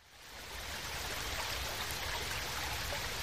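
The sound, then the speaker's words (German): A mountain stream babbles and rushes over rocks and stones in a steady wash of water that swells in over the first half second and then holds constant, with no voices. “Ich freue mich schon auf den Bach.”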